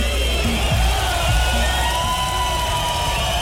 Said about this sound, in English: Yeah, big round of applause to the musical rapper.